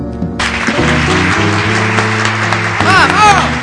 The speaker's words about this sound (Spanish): Un poco fuerte ese aplauso, me parece.